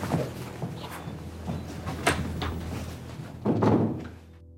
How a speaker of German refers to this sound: Würdest du bitte die Tür schließen, wenn du jetzt gehst?